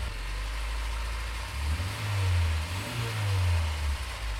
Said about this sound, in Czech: Jaký zvuk motoru jste těch 11 let vlastně poslouchal? To je nádhera, skutečný koncert.